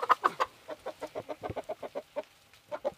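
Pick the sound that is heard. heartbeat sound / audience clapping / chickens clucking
chickens clucking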